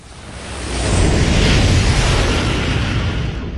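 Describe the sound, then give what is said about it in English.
An SS-54 gunship roars through the air in flight as it skips across the mists of Vorlak, its side ion engines screaming: a dense, continuous rumble with rattling and banging, swelling after the first second and staying loud throughout. “The Halo bangs and rattles as it skips across the mists of Vorlak.”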